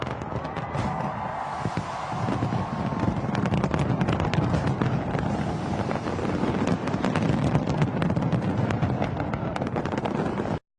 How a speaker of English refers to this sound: Residents and tourists gathered along the waterfront to witness the dazzling pyrotechnics, which showcased a vibrant blend of colour, light and music, setting a festive tone for the year ahead.